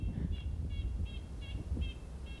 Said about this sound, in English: we're listening to Golden Crown Kinglets, which is that like squeaky high-pitched one, and then that loud kind of like car alarm one, that's the red-breasted nuthatch, and those two guys you just like constantly hear. They never stop talking.